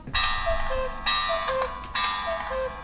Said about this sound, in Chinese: 到了时间以后呢，这个产品就会开始用闹钟来提示我们了。支持整点报时、半点报时。